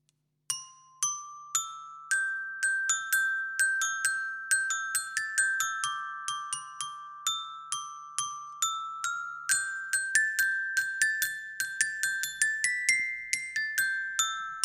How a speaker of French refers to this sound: Il s'agissait bien du carillon de la famille des percussions.